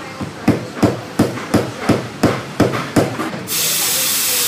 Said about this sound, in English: This is the steam. The steam is in Italian is vaporetto. And vaporetto is one of the amazing inventions Italians did. Because with that, we heat the milk. But we don't heat the milk with only heat. We call steam blasting technique.